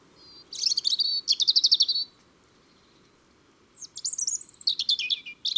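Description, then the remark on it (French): A European robin sings clear, very high-pitched warbling phrases, two bursts of rapid trills and liquid notes separated by a short pause, fairly loud with no voices. “Le rouge-gorge et son chant joli, très aigu.”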